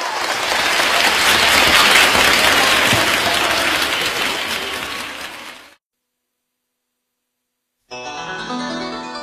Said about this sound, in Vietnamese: Một lần nữa chúng ta sẽ cùng dành thêm một tràng pháo tay